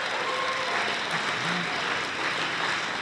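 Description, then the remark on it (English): Sustained applause from an audience, a dense steady patter of many hands clapping at even loudness throughout, with faint murmurs mixed in. “And Alcoholics Anonymous and my loving God, thank you for those applause.”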